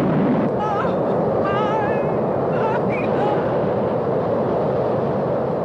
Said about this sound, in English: Up ahead, water rages down a bumpy slope of boulders.